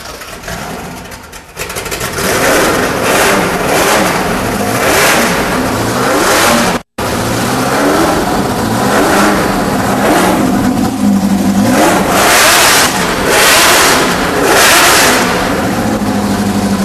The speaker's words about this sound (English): Fire up the GT40. Monkey wrench. So it's the same motor. They could never get the Webers to work with the big block, but this isn't a big block, and this has the Weber set, the downdraft Webers. Yeah, and this is the cool exhaust.